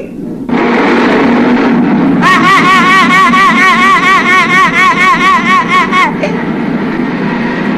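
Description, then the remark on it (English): A car engine starts up and drones steadily as the car drives off, then shifts into a loud, warbling, sputtering rhythm of repeated pulses for several seconds as it breaks down on a deserted road, before cutting back to a rough idle. “So, the mean landlord, after he got paid, drove off in his car. But the car broke down on a deserted road.”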